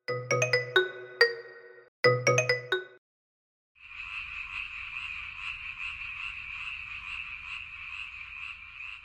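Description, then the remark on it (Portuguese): A toad gives a long, steady, buzzing trill of rapid croaks that runs for several seconds, after a few bright chime-like musical notes. No one speaks. “O sapo lava o pé.”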